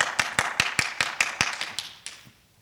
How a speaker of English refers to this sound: Now, you heard us clapping here, and I'm sure you were clapping at home.